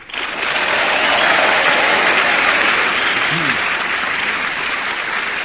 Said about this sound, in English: I'm sure that applause is for all of them for their valuable contributions.